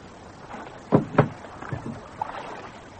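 A rowboat drifting in knocks softly against the hull of a larger boat twice, with faint water lapping and creaking in between, otherwise quiet.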